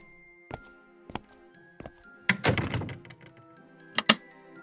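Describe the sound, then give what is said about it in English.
A few scattered knocks and bumps lead into a heavy thudding clatter of a door shutting, followed by two sharp clicks as the lock is turned. No one speaks. “Did I lock the door? Of course I did.”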